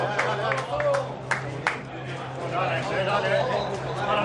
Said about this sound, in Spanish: Estos aplausos que oímos.